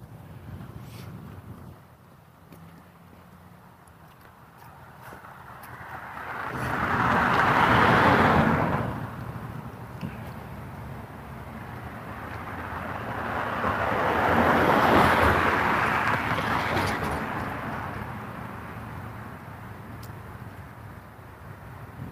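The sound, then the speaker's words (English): Morning road traffic passing outdoors on a cold day of 36 degrees: two vehicles approach, swell to a loud whoosh and fade away, one after another, over a steady low rumble of wind and road noise. “I'm a little bit surprised by just how much traffic there is this morning.”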